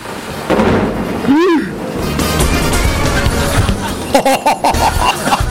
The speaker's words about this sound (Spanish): Ahora se viene otro trueno. A ver.